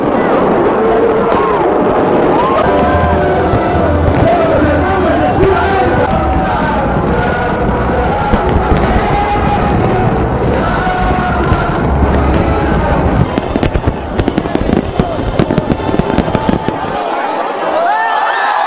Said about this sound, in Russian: А вот в бразильском Рио-де-Жанейро Новый год обычно встречают на берегу. В этот раз на знаменитом пляже Копакабана собралось около 2 миллионов человек. Для них небо озарил праздничный фейерверк. Он, кстати, считается крупнейшим в Латинской Америке.